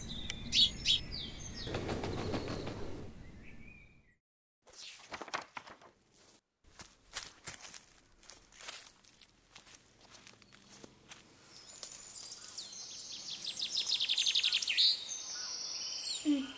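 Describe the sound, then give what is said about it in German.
Birds chirp and sing brightly at the start and again near the end, with a run of crunching footsteps on a path in between and no talking. “Danke, lieber Vogel.”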